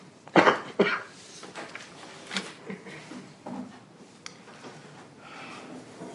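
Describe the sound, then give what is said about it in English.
A person coughs into an elbow: two sharp coughs in quick succession, followed by a few softer, muffled coughs and throat noises trailing off. No talking. “So, you know, I'll just try to cough into my elbow.”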